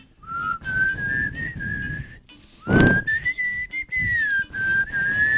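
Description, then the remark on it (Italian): Several people in a studio whistle a melody into the microphone, which has no anti-pop filter, the sustained tone gliding up and down, with a brief burst of breathy noise and rustling in the middle. “Ok, quando avete smesso di fischiare tutti nel microfono.”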